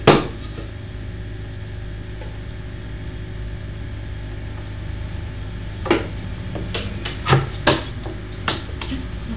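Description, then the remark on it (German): Bread is cut with a knife, heard as a few sharp knocks and scrapes against a board over a steady low hum, mostly in a cluster toward the end, with no one talking. “Willst du lieber dieses Brot? Ja. Einmal durchschneiden?”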